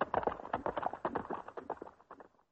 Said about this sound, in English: The horses galloped through the forest.